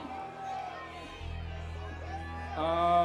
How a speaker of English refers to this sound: Well, these people have just been shrieking and yelling like a bunch of tasteless fools,